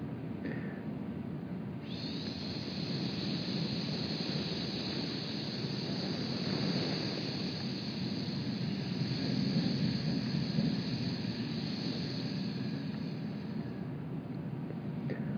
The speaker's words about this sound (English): Now, to expedite this, let's try the hiss. Hiss.